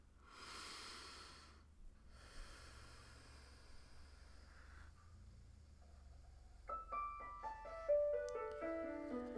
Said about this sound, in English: Close your eyes and start breathing through your nose deeper and deeper.